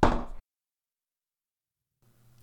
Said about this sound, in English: Attempts to set up. Well, hey! Wait, what till I set it up, man? You gotta knock it over.